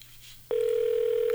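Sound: telephone call ringing tone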